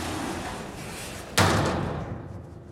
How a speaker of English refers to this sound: The elevator doors close.